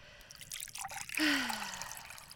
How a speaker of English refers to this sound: Yes, yes, bring it here. And don't be stingy with the first pour either. I'll need it.